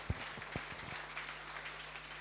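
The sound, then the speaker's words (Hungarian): An audience applauds after a lecture with dense, steady clapping, a few sharper individual claps standing out at the start, over a low constant hum. “Köszönjük szépen még egyszer tanár úrnak, egy tapsal köszönjük meg az előadását.”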